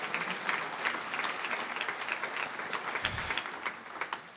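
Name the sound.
audience clapping and cheering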